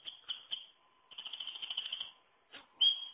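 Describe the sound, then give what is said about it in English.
A wren singing: bursts of high, rapid notes, including a long, fast trill in the middle, then a brief pause and a final sharp burst. No voices. “I'm picking something that are tuneful. The wren.”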